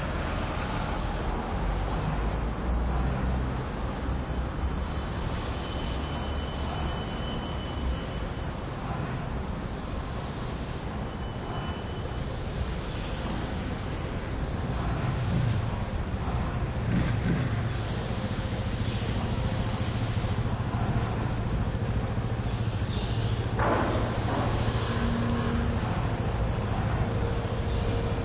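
Steady street traffic with cars crossing in front, someone approaching from the right, engines and tyre noise swelling and fading over a continuous low roadway rumble, with no one speaking.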